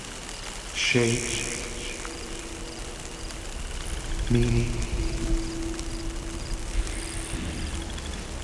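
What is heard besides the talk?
gentle rain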